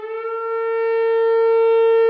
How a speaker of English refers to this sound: Fire Chief Chris Kazian is making do with an old emergency siren